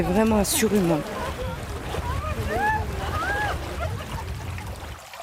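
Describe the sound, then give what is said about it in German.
A brook babbles steadily at a meeting point in Champs-Secré, a village 100 kilometres inland in the Normandie-Maine nature park, its rushing, gurgling water filling the whole recording, with a brief voice at the start and a few faint calls drifting over the flow. “Er plätschert ungefährlich dahin, der Bach am Treffpunkt in Champs-Secré, 100 Kilometer landeinwärts.”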